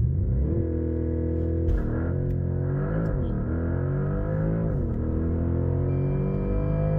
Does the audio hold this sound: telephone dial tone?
no